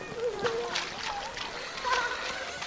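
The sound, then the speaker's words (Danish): Children jump and splash wildly in puddles in a quick, uneven series of wet slaps, with excited young voices calling out between the splashes. “Eller man kan hoppe i vandbytter og plaske helt vildt, ligesom de der børn gør.”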